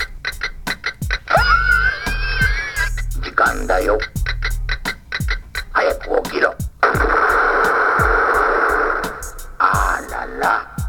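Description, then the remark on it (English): A novelty alarm clock shaped like a round anarchist's bomb with an LED on its fuse, going off: steady rapid ticking runs throughout, broken by warbling electronic tones and low beeps, then a loud, harsh buzzing ring for a few seconds before the ticking resumes. “It's a clock. It's an alarm clock, so I guess they're trying to tie it in one more time.”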